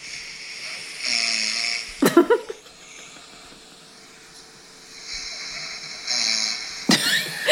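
man snoring

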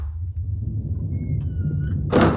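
door being opened

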